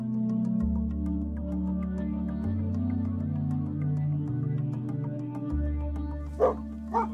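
A dog barks twice near the end, two sharp, fairly loud woofs rising over a steady low droning musical background that plays throughout.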